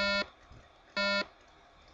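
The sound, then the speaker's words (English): Electronic warning beeps from an iPal Solo camera-based scan-and-read device as it shuts down: short harsh buzzy tones, about a quarter second each, repeating roughly once per second, loud, with a faint hum between them. “And it gives me little beep warnings that I'm doing that, and it's already shut down.”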